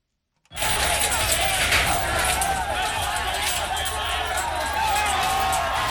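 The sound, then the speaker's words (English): A loud, dense crowd of about 3,000 Central American migrants surges and shouts in a sustained roar of commotion, with scattered banging and clattering as they pull apart a medical barricade at a border crossing with Mexico and Guatemala, beginning abruptly and continuing without pause. “The sound of a crowd of Central American migrants breaking apart a medical barricade at a border crossing with Mexico and Guatemala.”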